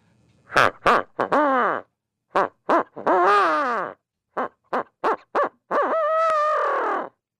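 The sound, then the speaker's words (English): An owl hooter call imitating a barred owl, used while turkey hunting as a locator call to make turkeys gobble; not loud. Three phrases of short clipped hoots, each ending in a longer, wavering, drawn-out note, the last one held longest. No talking. “the first one that I like to use every day, the very first thing is a owl hooter, and that's not loud.”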